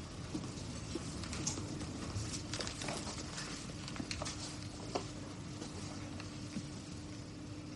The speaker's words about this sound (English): Put your hat down and wait till the rain stops.